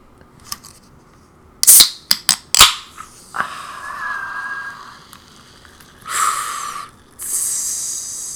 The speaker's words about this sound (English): Do you hear the bubbles? That's the black cherry popping.